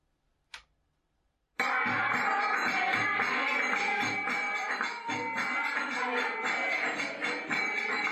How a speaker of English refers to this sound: I want you to listen very carefully for the sound of bells.